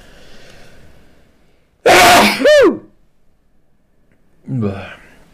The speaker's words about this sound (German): Es war bei dem Switch zwischen H264 und H265 und jetzt muss ich niesen.